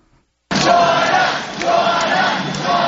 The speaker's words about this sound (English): As we pass by different buildings here, people are looking out and waving and giving thumbs up and lots of support. So the crowd has been chanting, join us.